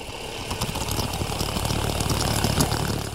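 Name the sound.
coffee machine running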